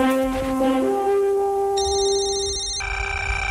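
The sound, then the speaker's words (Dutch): An electronic alarm ringtone on a radio show, announcing a ticket giveaway: steady, bright synthetic tones that step upward in pitch, with added high-pitched layers joining partway through, loud and continuous with no speech. “Ja, dit is het alarm.”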